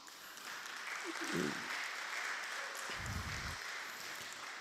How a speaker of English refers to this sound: And 2 days ago, he called me that he already got all the license, the government license, to be a constructor, what do you call it? So give an applause to him, you know what I mean?